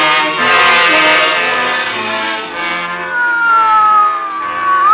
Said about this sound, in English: Your squad car stabs, tears, rips through a city, and its wail is like a piece of broken glass that slashes across its face. You can see the terror, silent and quick, and the blur of the city making way for you.